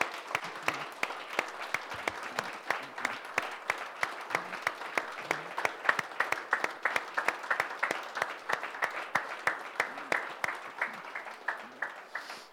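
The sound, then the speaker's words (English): A standing audience applauds in praise to God for a Special Touch Ministry worker, many hands clapping steadily for about twelve seconds in a dense, fairly even rhythm that stays loud throughout and fades slightly at the very end, with no talking. “So would you guys all stand and let's give God a big hand clap of praise for somebody that's willing to give up their lives as”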